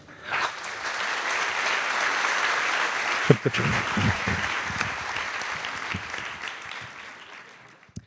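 An audience applauds steadily for several seconds as a comedian is introduced at a Halloween special evening, a dense wash of clapping that holds at an even level, with a few louder thumps midway, before tapering off at the end.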